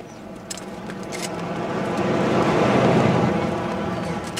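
A car drives past, its broad road rumble swelling over a couple of seconds to a peak and then slowly easing off as it moves away.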